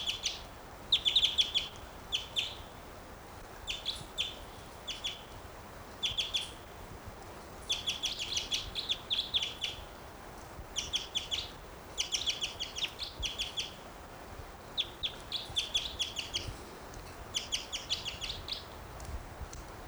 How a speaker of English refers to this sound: Wild bird. Wild.